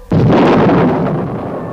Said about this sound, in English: There are some men about to set off an explosive in a hole that's just been bored. Listen.